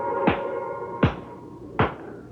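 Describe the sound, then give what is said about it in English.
Three sharp hand claps by a hypnotist to wake a subject from hypnosis, evenly spaced about three-quarters of a second apart, each a crisp, loud slap over a faint, steady background hum, with no one speaking. “at the sound of my hands clapping, you will wake up.”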